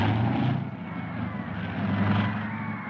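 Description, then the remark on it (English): A propeller airplane engine drones steadily and loudly, its low throbbing hum swelling slightly as the plane climbs as fast as it can, with no voices present. “I took the plane up, and I climbed her as fast as she would take it.”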